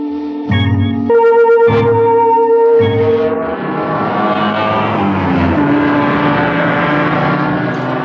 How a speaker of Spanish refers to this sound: Minutos más tarde, el auto Sport continúa su ruta por la cinta de asfalto.